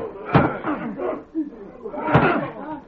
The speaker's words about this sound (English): Ed, bust the door in. Come on, together now.